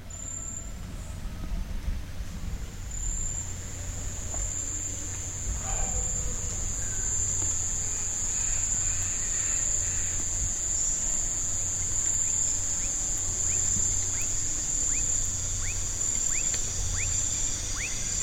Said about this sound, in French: Quelques minutes, la forêt commença à s'emplir des sons du crépuscule. Les chants des cigales, des cacambras, des hiboux et d'autres oiseaux nocturnes s'engouffrèrent dans la faille du silence.